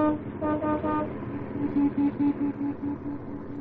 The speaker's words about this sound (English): I don't like the way you tooted your horn, punk.